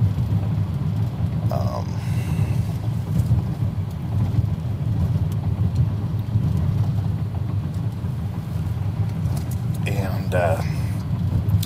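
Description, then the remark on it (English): Steady low engine drone from inside a running green Toyota Solara car, a constant rumble throughout, with a couple of brief faint higher sounds near the start and toward the end. “I am in the green car today. I'm in my wife's car, the Toyota Solara.”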